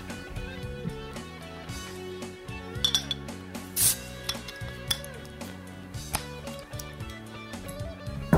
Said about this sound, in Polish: No ale ja na pewno nie będę tak długo czekał. Biorę się za otwarcie tego piwa i zaraz Was zapoznam z jego aromatem i z jego smakiem.